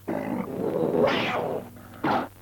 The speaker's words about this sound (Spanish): Bueno, como habrán podido oír, comprender nuestros oyentes, este representante de los tigres de Sumatra nos acaban de decir... por favor, ¿podría volver a insistir en la contestación? Es que no estoy seguro de haber entendido bien.